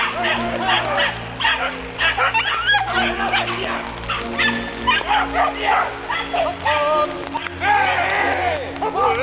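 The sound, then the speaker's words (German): Several hunting dogs bark and yelp at a wild boar during a hunt in a frantic, nearly continuous chorus, with high excited yips over deeper barks, while human voices shout in the background. “Die Hunde haben eine Sau hier vorne!”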